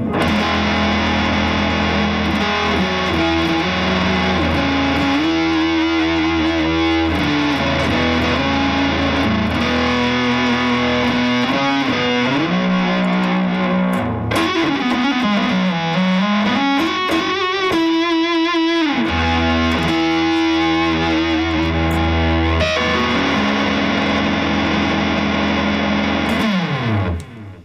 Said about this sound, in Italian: Bel suono, poi bello caldo, questa distorsione, bella calda.